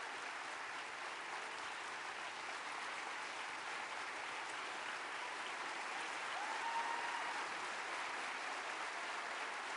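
Steady, sustained applause from an audience, a dense wash of clapping that holds at an even loudness for about ten seconds with no voices standing out.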